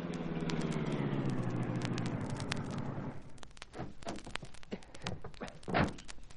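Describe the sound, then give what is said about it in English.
A car engine hums steadily, then cuts off after a few seconds as the car pulls over and stops, leaving scattered clicks and soft thunks in the quiet afterward. “We'll pull over and stop, Cato.”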